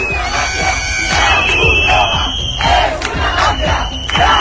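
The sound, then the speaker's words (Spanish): A loud crowd of protesters in Ceuta shouts angrily and continuously, accusing those distributing Red Cross food of being a mafia, many voices overlapping in rising and falling bursts, with a thin high-pitched tone running through much of the noise. “Estaban acusándoles, lo escuchamos, de ser una mafia.”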